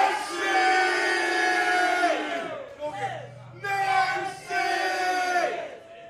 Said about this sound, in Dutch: En we gaan even met z'n allen keihard Nancy. Nancy roepen op drie. Dan komt je. 1, 2, 3. Nancy!